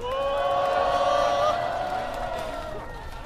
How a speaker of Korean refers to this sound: 힘찬 연대의 박수로 연설을 청해 듣도록 하겠습니다.